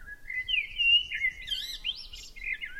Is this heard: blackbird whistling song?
yes